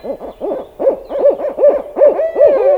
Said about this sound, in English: Barred owls sound rowdy by comparison.